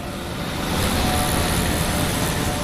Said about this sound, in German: In Metropolen wie Bangkok oder Jakarta verstopfen Autos und Motorroller, Busse und Tuk-Tuks die Straßen, verpesten die Luft mit ihren Abgasen. Die Menschen leiden unter Lärm und ewig hupendem Verkehr.